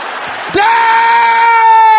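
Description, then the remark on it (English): A large crowd of worshippers loudly shouts a prayer in unison against anything eaten or swallowed assigned to attack their health. The sound swells suddenly after a brief murmur and holds as a sustained, overlapping roar until the end. “Can I hear you shouting that loud?”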